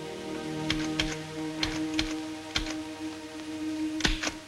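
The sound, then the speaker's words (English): Sharp, irregular typewriter keystrokes clack as Nurse Wainwright types in a waiting area, arriving singly and in quick pairs over a steady low hum, with no voices. “In the waiting area, Nurse Wainwright sits at a typewriter.”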